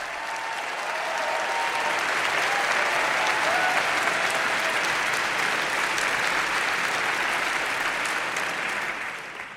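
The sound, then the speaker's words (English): A large crowd at the New Yorker Festival in October 2019 applauds steadily for nearly ten seconds, welcoming interviewer Terry Gross: a dense, even roar of clapping that swells quickly, holds strong throughout, and tapers slightly at the end, with no one speaking over it. “Terry Gross joined me in October 2019 at the New Yorker Festival, where the crowd welcomed her like a rock star.”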